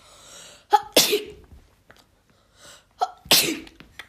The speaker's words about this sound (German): Oh, muss gerade ein bisschen niesen. Oh. Hab nämlich Heuschnupfen.